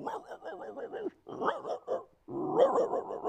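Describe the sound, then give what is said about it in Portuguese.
A person imitates a dog, loud and voiced: a quick run of rhythmic barks, a short pause, then a gruffer burst and a long rough growl at the end. “Então, imita um cachorro aqui pra gente ver.”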